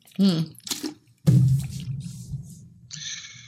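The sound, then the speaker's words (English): Someone takes a wet sip of water with a short slurp and a swallow, moderately loud, with brief vocal sounds around it. “I didn't need a sip of water.”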